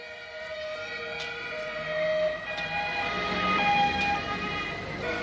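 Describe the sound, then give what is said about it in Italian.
Cars pull away out of an underground area with sirens wailing steadily, the layered tones rising and shifting in pitch amid a dull traffic rumble, fairly loud and continuous throughout, with no voices. “Vengono sbattuti in macchina e adesso le macchine scorreranno via da questo sotterraneo.”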